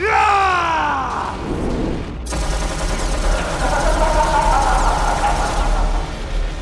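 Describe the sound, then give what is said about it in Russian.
A falling, whining tone gives way to a loud, sustained burst of automatic gunfire from a rifle fired at a cyborg, rapid shots blurring into a dense rattle that continues for several seconds. “Выдохнул он, откашлившись, и, выскочив, начал палить по киборгу.”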